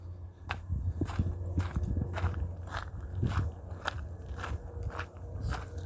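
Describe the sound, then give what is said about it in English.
Steady footsteps crunch over a rocky path next to a river, about a dozen sharp gritty steps in an even walking rhythm, with a low rumbling hum of moving river water underneath and no talking. “Yeah, so I'm on a bit of a rocky path next to the river. Hopefully you'll get some walking ASMR, some phone moving ASMR.”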